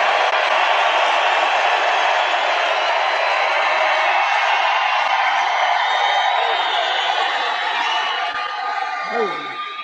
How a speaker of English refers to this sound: And I don't think I've ever introduced anyone that got applause like he just got. I must tell you, I don't think it's true. I don't think I've ever introduced anybody that got applause like that.